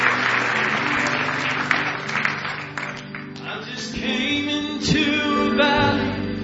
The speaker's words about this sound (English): Give the Lord a big hand clap of praise tonight if you love him.